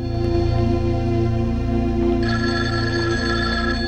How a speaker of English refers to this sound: Now the police chief's wife answers the phone in her hallway.